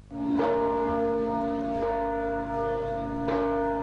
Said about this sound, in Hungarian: A Nándorfehérvári diadal 550. évfordulójára emlékezünk országszerte. A déli harangszó azóta a világra szóló győzelem jelképe lett a keresztény világban.